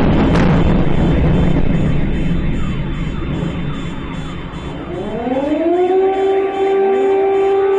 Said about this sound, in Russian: И вот это вот еще один такой типичный звук. Это происходит так. Сильнейший взрыв, включается сирена оповещения. Вот это значит, вы точно в Харькове.